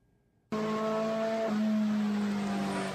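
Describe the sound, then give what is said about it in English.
After a brief quiet moment, a race car engine in first gear at a rolling start abruptly roars up to a loud, sustained high-revving drone that holds steady, with a slight pitch dip midway, as the pace car pulls off. “Yeah, so my plan was to be in first gear probably like 5,500, 6 grand RPM, and if I could hold it there before I had to grab second, I could launch at the start.”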